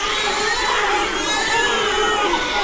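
A dense chorus of 46 newborn babies wailing at once in one room at a private reproductive medicine centre, their overlapping high-pitched cries blending into a loud, continuous din with no pauses.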